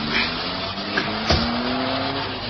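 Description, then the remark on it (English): A car driving around a park, its engine running steadily with a constant low drone and broad rushing noise, with a short knock partway through and no voices. “Twice around the park, Jane. I want to talk to you.”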